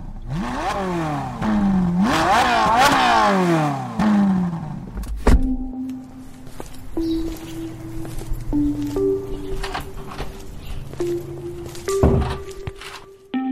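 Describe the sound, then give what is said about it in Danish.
A car engine accelerates hard onto the motorway on the way into Copenhagen, its pitch climbing and dropping through several gear changes for about five seconds, then a sharp thunk gives way to quieter steady hums and faint clatter. “Nu vil jeg køre ind mod det store København, og jeg rammer sådan cirka motorvejen nu, så det passer faktisk rigtig godt.”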